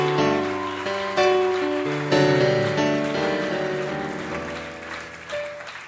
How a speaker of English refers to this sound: Can we give all the staff and all the workers and all the pastors a wonderful hand clap tonight?